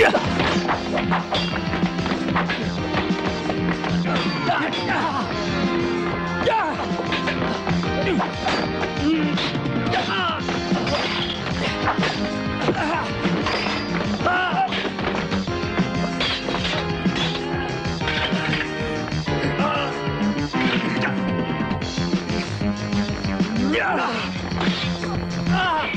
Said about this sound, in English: every time there's a fight scene, like I said, the synthesizers really kick in. So just to end on a bit of a high, here is some of that classic synth whilst people are punching each other.